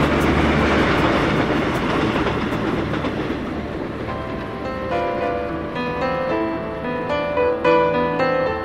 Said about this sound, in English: The train slipped away across the sleeping land into the dark and winter night.